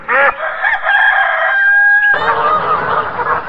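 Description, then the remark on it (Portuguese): Chickens cluck in a henhouse, with a loud drawn-out crow-like call at first, then a busier stretch of overlapping clucks over a rustling background. No one speaks. “E como num passe de mágica, ele aparece no galinheiro.”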